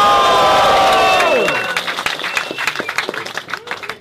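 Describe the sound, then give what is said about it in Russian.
A crowd at a hip-hop performance roars and cheers loudly after the rapper asks them to make noise, the sustained shout dropping away after about a second and a half, leaving a burst of scattered, uneven clapping and whoops. “Ну пошумите, если узнали что-то, камон!”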